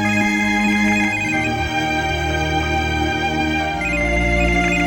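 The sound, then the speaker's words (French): A mobile phone rings during a class with a loud, melodic ringtone that plays continuously for several seconds, with no voices over it. “Pendant chita dans classe moi, téléphone moi sonné.”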